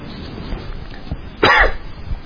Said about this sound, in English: Think about that for a second while I try to clear my throat.